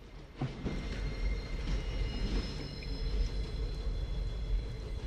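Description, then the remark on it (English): A steam train rumbles steadily and fairly loudly as it approaches down the tracks, a deep continuous roar threaded with faint high metallic whines and a few clanks near the start, with no voices. “They look down the tracks and see a steam train heading their way.”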